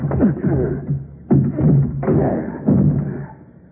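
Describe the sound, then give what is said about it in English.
The door of a wrecked car with its whole front end smashed in is wrenched open by hand with a sheriff's help: four heavy, grinding bursts of bending metal and dull thumps come in uneven surges, each straining creak fading before the next shove, with no talking. “All right, force it open.”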